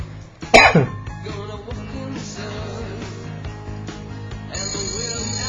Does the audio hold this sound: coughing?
yes